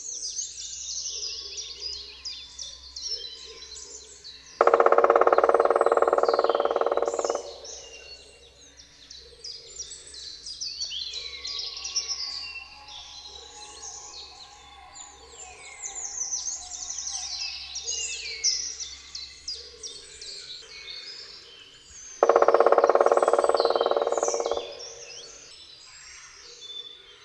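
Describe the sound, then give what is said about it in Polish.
Two loud, rapid drumming rolls of a black woodpecker, each a series of distinct strikes of falling intensity lasting a few seconds and spaced well apart, ring out over a steady background chorus of chirping songbirds. “bębnienie dzięcioła czarnego jest bardzo donośne. Składa się z serii wyraźnie rozróżnialnych uderzeń o opadającym natężeniu.”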